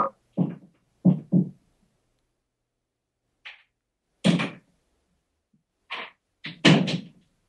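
Doors opening and bumping shut, a series of short, fairly loud thuds and clunks at irregular intervals with brief silences between, and no one talking.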